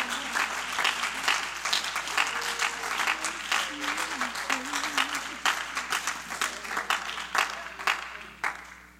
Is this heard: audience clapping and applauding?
yes